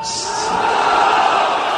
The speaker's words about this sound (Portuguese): Uma multidão de iranianos acompanha nesta manhã o enterro do general iraniano Qassem Soleimani em sua cidade natal, Kerman.